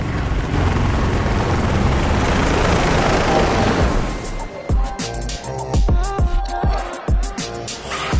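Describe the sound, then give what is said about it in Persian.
A loud helicopter roar fills the first half with steady rotor noise, a rescue helicopter taking out a person found alive after being lost in a forest, then gives way to music with sharp percussive hits and sustained tones. “اون زنده است، باید با هلیکوپتر از اینجا ببریمش.”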